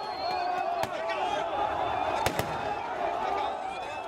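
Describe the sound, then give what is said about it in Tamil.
Three sharp gunshots crack out over a dense, shouting crowd at a street protest in Egypt by supporters of ousted president Morsi, one on its own and then two in quick succession, loud above the steady din. “ஆர்ப்பாட்டக்காரர்கள் தரப்பிலிருந்தும் துப்பாக்கிச்சூடு சத்தங்கள் வந்ததை கேட்டதாக பிபிசி செய்தியாளர்கள் கூறுகின்றனர்”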